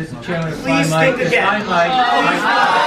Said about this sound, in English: Anyway, the kid says stained credentials. D'Agostino jumps in, and the crowd erupts.